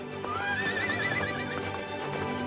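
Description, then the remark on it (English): A horse whinnies once, a high wavering neigh that rises and trembles for about a second, over a dense, steady background with faint hoof clopping, as the horse, ridden by a girl, leaps over a fallen tree in a sunny forest. “A horse and its rider leap over a fallen tree.”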